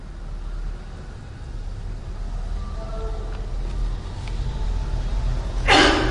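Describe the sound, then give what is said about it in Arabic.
A single sharp sneeze from an audience member during a lecture bursts out near the end, over a steady low rumble of background noise with no talking. “طيب يرحمكم الله”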